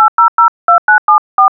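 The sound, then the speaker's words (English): Eight touch-tone telephone keypad beeps dialing a number, generated by DECtalk speech software: short clean dual-pitch tones in quick groups with brief pauses between, loud with no voices. “Dial telephone numbers”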